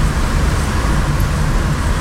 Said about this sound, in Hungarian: Jobbról valami nagy teherautó.